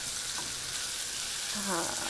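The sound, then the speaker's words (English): Steady sizzling of onions and dates frying in hot oil in a frying pan as everything is stirred to coat it in oil, a dense crackling hiss that holds evenly throughout, with faint stirring scrapes and no talking. “You can hear that sizzling nicely.”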